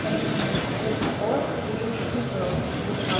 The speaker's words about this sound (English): So we're at the Kyiv train station and it's the evening. And Kyiv station is massive. And there is one platform where trains are pulling from Kramatorsk. That's the front line, pretty much.